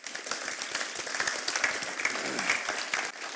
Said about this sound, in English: And the reason why this church was able to continue in my absence is because our leadership team got together, they worked together in order to make it happen. And I think that's worthy of a round of applause, don't you?